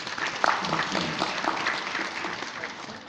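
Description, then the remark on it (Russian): An audience applauds Genri Reznik, head of the Moscow Bar Chamber, with dense, continuous clapping, a steady crackling wash of many hands at fairly even loudness that eases off slightly toward the end. “И здесь я попрошу аплодисменты.”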